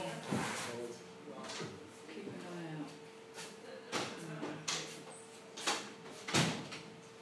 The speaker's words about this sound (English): I'm sorry, I'm distracted by the voices. We're going to have to shut the door. Somebody's going to have to work it out if they come late.